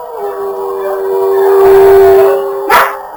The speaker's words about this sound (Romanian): Acum nu, dar mai înainte s-a auzit un fel de urlet.